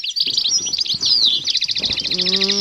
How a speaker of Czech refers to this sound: Je to krása, když vás vzbudí jemný ptačí zpěv, který potichonku proniká do snu.